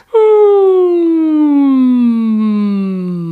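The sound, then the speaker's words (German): A single voice hums a long, steady tone that glides slowly downward in pitch like a siren as a vocal warm-up exercise, loud, lasting about three seconds with no talking. “Oder eben dieses, was wir zuerst gemacht haben, oder einfach nur eine Sirene summen.”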